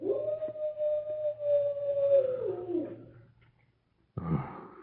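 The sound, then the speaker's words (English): A single long wolf howl holds a steady tone for a few seconds, then slides downward and fades, followed by silence and a brief abrupt noise at the end. “The dead cannot hear the cry of a wolf. It was a wolf, and we are not dead.”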